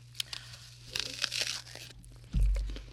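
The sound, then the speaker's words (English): A crisp, juicy crunch from biting into a fresh Monster Crunch apple, a burst of crackly snapping, followed by a dull low thump. “The sound is great, isn't it? It's called the Monster Crunch.”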